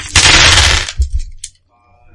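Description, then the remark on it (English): Dice are rolled as loudly as possible right next to the microphone, a harsh rattling burst that lasts under a second, followed by a few softer clicks as they settle, then near silence. “You just needed to roll dice, didn't you? As loud as you possibly could, right next to the microphone.”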